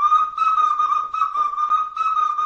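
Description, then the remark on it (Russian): A toy whistle blown in a steady, shrill, high tone with a fluttering warble, fairly loud, pausing briefly a few times between long blasts. “И был праздник свистунья, и он даже назывался свистопляска, потому что под этот свист люди плясали.”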